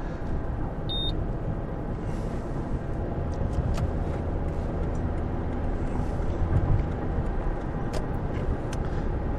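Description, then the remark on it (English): Steady, continuous road rumble from inside a car driving at speed onto the M4 motorway, with one brief electronic beep near the start and no talking. “So I'm just getting onto the M4 here, and we'll be home.”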